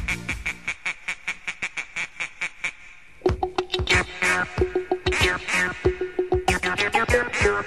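A rapid series of nasal duck quacks, steady and evenly spaced at first, then joined by a louder, busier burst of overlapping quacks and honks close up.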